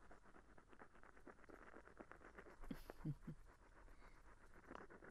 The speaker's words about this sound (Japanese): 何もないところではございますが、一日雨を眺めて過ごすのもおつなものではございませんか？